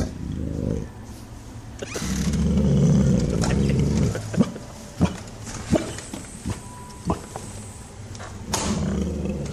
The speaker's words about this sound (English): Okay, so the dog's growling. Yeah, wait for it. Barking. The best growl.